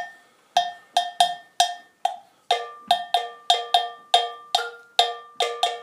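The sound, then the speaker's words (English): A metal percussion bell plays a repeating rhythmic pattern of sharp, ringing strikes in short groups, about fourteen hits in all, each with a bright, mid-pitched clang that decays quickly. No voices. “And if we start off with the bell part.”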